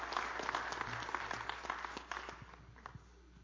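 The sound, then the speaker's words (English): An audience applauds, many hands clapping in a dense, steady patter that gradually thins and softens over a few seconds, with a few scattered claps near the end. “Y'all give Brother Jimmy a hand clap.”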